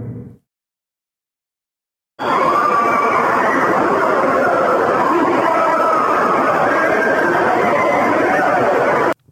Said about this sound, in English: I'm sorry about the commercial popping up there, but yeah, it's this like screaming, wailing. Sounds like hell, right?